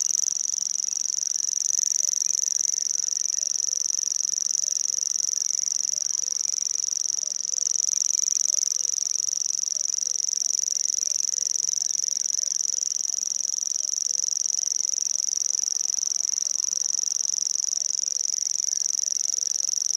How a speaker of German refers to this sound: Der knapp sperlingsgroße Feldschwirl gehört zu den ausgesprochen heimlichen Vogelarten. Nur selten bekommt man ihn zu Gesicht.